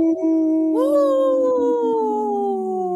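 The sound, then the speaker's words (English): A wolf howls in one long, sustained note that swoops upward, then slowly sinks in pitch. The call is loud, with no voices over it. “In this portion of the show, we like to bring awareness to our Minnesota wolf population.”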